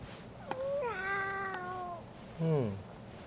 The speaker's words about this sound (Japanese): そう、猫ちゃんね。